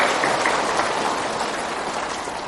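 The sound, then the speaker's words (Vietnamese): A large audience at a Buddhist ceremony claps steadily for a few seconds to welcome a visiting venerable master, a dense, sustained wash of applause that holds at a fairly even loudness throughout, with no talking. “Đề nghị lễ chúng ta cho một tràng pháo tay thiệt là lớn.”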